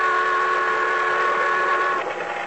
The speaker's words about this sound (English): But the boat siren, crying its warning, drowned out my shouts. Went on fast, and the fog closed in behind it.